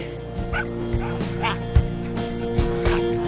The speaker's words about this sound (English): Other dogs in the yard play.